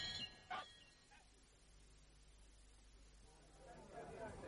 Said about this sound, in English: That's Rodney, sir, Mrs. Palgrove's dog. Had to put him in the garage for now.